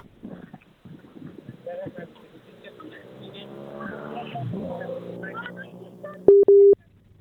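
signal or alarm, telephone line tones

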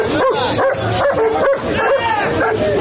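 animal, police service dogs barking

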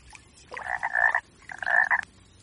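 animal, frog croaking loudly

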